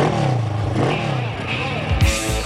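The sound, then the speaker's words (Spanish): A motorcycle engine revs up and down in loud, rising and falling sweeps, ending in a sharp, throaty surge of throttle that fills the whole two and a half seconds. “¿Te apasiona el mundo de las motos?”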